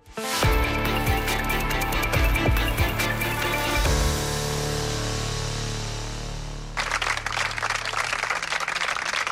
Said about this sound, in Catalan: Són els aplaudiments que han tancat la concentració que han fet aquest matí mig centenar de persones a les portes del Col·legi Públic Àngel Guimerà de Balaguer en protesta per l'agressió a un mestre del centre per part del pare d'un alumne.